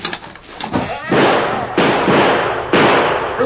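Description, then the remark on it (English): Three loud gunshots ring out at uneven intervals, each a sharp blast that trails off into a roaring decay before the next one hits; the shots are fired too high at the Lone Ranger as he comes crawling through a door on his hands and knees. “You were trying to kill me, so you shot too high.”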